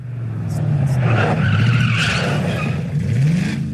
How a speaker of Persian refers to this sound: بله، گشت ارشاد دیگر مانند گذشته نخواهد بود. صدای خودروهای این گشت ها که کورس گذاشتند تا به 21 تیر ماه برسند از همیشه بیشتر شنیده می شود.